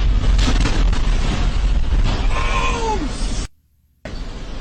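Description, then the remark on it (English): A plane crash explosion on a worker's dash cam, after the plane's engine caught fire and it crashed near Fern Valley and Gray Lane, hitting Kentucky Petroleum Recycling and Grade A Auto Parts: a loud, continuous low roar with a brief falling wail-like cry partway through. The sound cuts out abruptly for about half a second, then the rumble returns. “There's a dash cam footage of one of the workers there where, like, literally you can see the plane crash right in front of him.”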